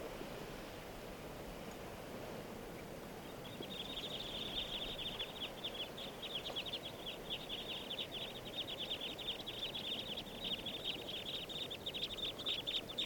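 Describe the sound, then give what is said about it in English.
A flock of type 2 crossbills sitting in lodgepole pines calls continuously from about four seconds on, a dense stream of short, overlapping chips over a steady rushing background. “And they're sitting down in the trees now. They're all type 2s. And they're sitting in the lodge poles.”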